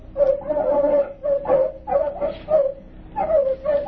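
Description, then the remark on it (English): Several artificially enlarged terriers loosed in crop fields bark and yip in rapid, overlapping bursts, with high whimpering whines between them, loud, no voices heard. “Following tape, field observation of terriers.”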